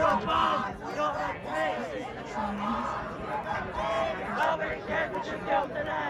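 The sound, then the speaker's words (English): Students at the University of Michigan's commencement ceremony, waving Palestinian flags in solidarity with Gaza, chant and shout together outdoors, a dense, continuous roar of rhythmic group chanting with overlapping cries rising and falling throughout. “At the University of Michigan's commencement ceremony, students chanted and waved Palestinian flags in solidarity with Gaza.”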